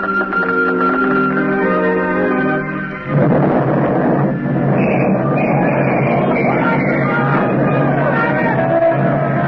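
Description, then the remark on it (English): A loud, broad blast erupts a few seconds in and becomes a sustained roaring rumble, an explosion and fire in a destroyer dry dock at Sag Island Shipyard, after an opening stretch of tonal shouting or yelling voices. “Explosion and fire in destroyer dry dock.”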